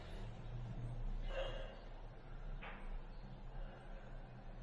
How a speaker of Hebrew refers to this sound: ועוד נשימה מעגלית, ועוד חזק, ונרגיש את כל התחושות של הסחרחורת בגוף וננשום. פשוט ננשום, ננשום.